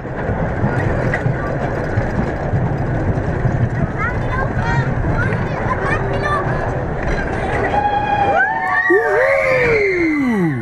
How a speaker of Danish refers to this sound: Råber alle i rutsjebanen, da de i høj fart kører ned ad den ene bakke efter den anden. De kilder helt vildt i maven hver gang, de kører over toppen af en bakke.